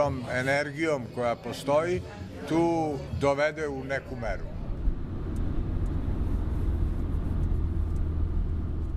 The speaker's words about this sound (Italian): In auto attraversiamo Novi Beograd, Nuova Belgrado, il distretto modernista. Stradoni ampi e grandi palazzi, sia del potere sia residenziali.